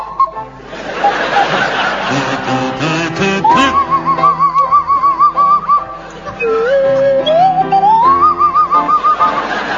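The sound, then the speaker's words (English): Barry Cryer on a buzzy kazoo and Graham Garden on a sliding swanee whistle play The Blue Danube waltz, the whistle gliding and warbling up and down between notes, with audience laughter and chuckles mixed in throughout. “Your song is The Blue Danube, and it's to feature Barry Cryer on the kazoo and Graham Garden on the Swanee Whistle.”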